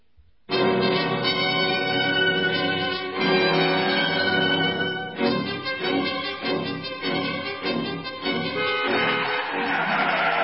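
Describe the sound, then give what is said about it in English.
A car skids to a stop in the road before a man standing in front of it: a long, loud screech of tires with a harsh, tonal squeal that wavers and ends in a rough, noisy hiss. No one speaks. “What do you mean by standing in front of my car? You might have been killed.”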